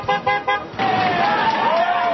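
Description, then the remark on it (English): Three quick, blaring horn honks from a police car being driven by on a roadside along the New York-Pennsylvania border, followed right away by a loud, sustained swell of roadside crowd noise and cheering with a wavering tone running through it. “captured convict Ralph Bucky Phillips is driven by in a police car, the driver honking the horn”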